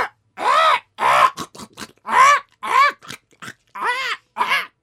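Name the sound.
parrot squawking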